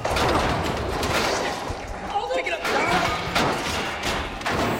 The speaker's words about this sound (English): Dylan and the others push a long metal table across the shaft to make a bridge over to the other doors